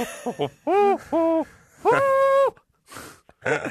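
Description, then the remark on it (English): A person's voice imitates an owl hooting, clear: two short hoots, then a longer drawn-out hoot, followed by a few breathy noises. “What did the owl say?”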